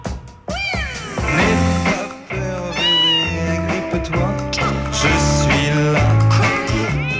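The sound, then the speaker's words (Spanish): A female cat meows over and over, its loud, drawn-out cries rising and falling in pitch with hardly a pause, with no talking. “Mi gata, Nehuen, una belleza.”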